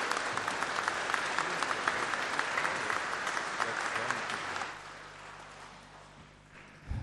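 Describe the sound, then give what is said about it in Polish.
An audience claps steadily for several seconds for Bishop Wiesław, the auxiliary bishop from Gdańsk, after his homily, a dense wash of hand claps that fades out around the fifth second, leaving a quiet room hum. “uczuć, które się zrodziły podczas homilii księdza biskupa pomocniczego, który przybył z metropolii, z Gdańska, z nadmorza do nas, biskupa Wiesława, i myślę, że należą mu się też jakieś oklaski.”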